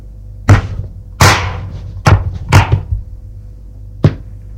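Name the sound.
drawer opening and closing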